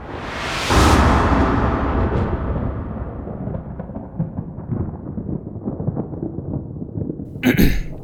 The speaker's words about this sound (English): Looks like we get to have a tiebreaker lightning round, says … enthusiastically as the sound of thunder roars across the stage.